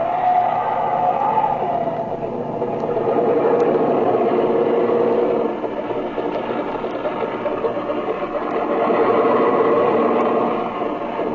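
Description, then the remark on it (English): A small airplane engine runs steadily at low power while taxiing on an airfield runway toward a hangar after landing, with no wind. A continuous mid-pitched droning hum with slight surges in loudness and no voices. “Taxi up by that hangar”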